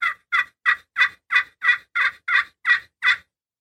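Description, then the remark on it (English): A series of ten raspy old hen turkey yelps made on a hunting call with a striker, evenly spaced in a steady rhythm, loud with no talking. “The old hen's usually raspier.”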